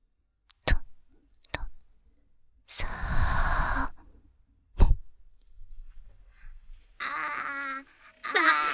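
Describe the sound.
Soft mouth clicks and a long breathy exhale give way to two wavering, high-pitched wails near the end, a voice imitating a crying baby.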